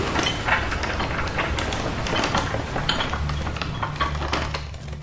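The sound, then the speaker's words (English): A heavy metal door is hauled shut by hand: continuous grinding and clanking over a low rumbling drone, with sharp metallic knocks scattered throughout, steady and fairly loud with no voices. “I'll close the door manually, Kurgono.”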